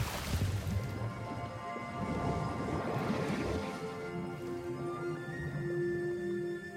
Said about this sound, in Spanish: Agua Marina tira a su delfín. Se tira al agua.